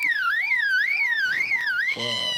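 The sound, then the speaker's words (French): A bird mimics a car alarm with a loud, rising-and-falling siren whoop repeated steadily, then switches to a harsher, buzzy alarm-like tone at the end. No talking. “Une alarme de voiture, c'est ça. Et donc c'est toujours les mêmes oiseaux qui font ces bruits-là, hein, juste en imitant.”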